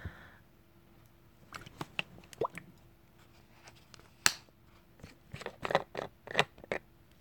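Warm baby oil being poured onto someone's back and rubbed in, heard as a scattered series of soft, wet clicks and squishy drips at an irregular rhythm, fairly quiet overall with a few sharper snaps and no talking.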